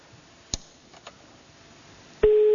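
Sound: telephone call tone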